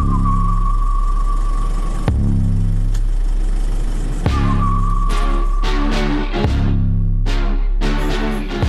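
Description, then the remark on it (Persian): A car engine is started and runs loud with a steady low rumble, surging in brief revs or clunks roughly every two seconds before settling back to a rough idle. “نیکو رو انداختم پشت ماشین، استارت رو زدم و صدای موزیک رو تا آخر بردم بالا.”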